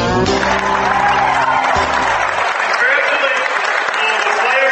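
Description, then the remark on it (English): A large crowd in Fort Loramie applauds loudly and steadily for the Anarockets, the D6 state champion football team, with dense clapping mixed with cheers and shouts, while a brief low tone fades out in the first couple of seconds. “Big round of applause for the Anarockets D6 state football champs.”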